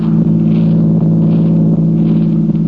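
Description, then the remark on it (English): A car engine drones steadily as the vehicle drives along, a loud, continuous low rumble with a faint hiss of road noise above it and no voices. “And it's a nice car you have, Don.”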